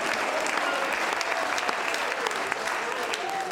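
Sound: audience clapping hands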